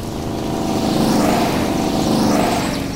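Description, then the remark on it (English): A loud, steady drone of two propeller airplanes heading to the jungle fills the whole stretch, a buzzing harmonic hum that swells slightly in the middle and again near the end, with no voices. “Two planes are going to the jungle.”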